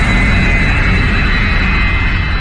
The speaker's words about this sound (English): Later, a plane arrives in Los Angeles.